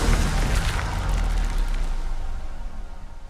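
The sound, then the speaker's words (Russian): A huge explosion from cannon fire by troops: a loud, deep boom at the start that rolls into a sustained low rumble and slowly fades, with no voices. “Час огромный взрыв, увидим мы осаду под прикрытием.”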